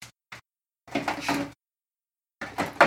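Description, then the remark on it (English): A fridge door is pulled open with a couple of quick clicks as someone gets a sauce out, then a longer rustling, scraping rush of noise and another burst of handling sounds. No one speaks. “I'm getting a sauce out of the fridge.”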